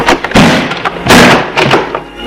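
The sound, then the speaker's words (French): A toilet (WC) door is shut with a few heavy wooden thuds and knocks, loud, spread over a couple of seconds with no one speaking. “la porte.”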